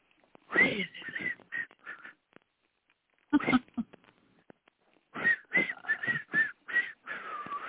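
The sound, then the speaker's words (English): Someone whistles a short, bouncy tune in bursts of quick notes, pausing between phrases, with a few faint breathy sounds mixed in; fairly clear, no talking. “Okay, whistle.”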